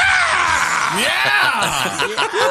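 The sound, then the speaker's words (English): A recorded man lets out a loud, strained scream, played in a radio spot for a CD of screams, his voice rising and sliding in pitch for a couple of seconds over a dense, noisy background of crowd-like clamor. “I scream, you scream, we all scream for screams.”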